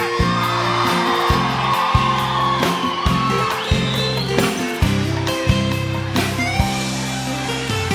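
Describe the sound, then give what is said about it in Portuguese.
A large crowd shouts and whoops continuously over loud live music with a heavy, pulsing bass line, the cheering sounding energetic throughout. “Quem tá feliz, grita!”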